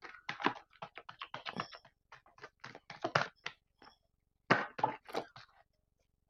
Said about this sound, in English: Okay, I got these two cards. Normally, I kind of just pick one from this deck. I got these two cards, and I'm going to shuffle from my other deck here.